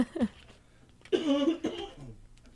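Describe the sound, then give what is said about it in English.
A throaty cough bursts out, preceded by a smaller rough catch in the throat, then trails off into quiet breathing. “I got to get rid of this cough. I got this cough stuck in my throat here.”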